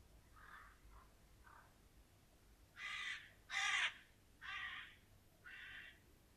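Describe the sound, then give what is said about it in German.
A flock of crows caws outside a window: a few faint calls first, then four loud, harsh caws in a rough, evenly spaced series, with no talking. “Und draußen vor dem Fenster ein Krähenschwarm.”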